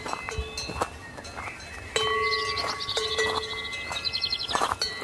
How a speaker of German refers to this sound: Der Weg führt unter anderem auch über Almwiesen, wo wir auf mehrere Herden von Kühen treffen, die mitunter auch neugierig nahe an die Wanderer herankommen.